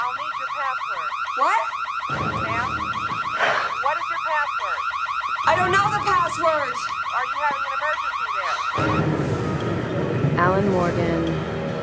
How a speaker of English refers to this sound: Just make this stop. Hello? This is a alarm. Could you please turn this off?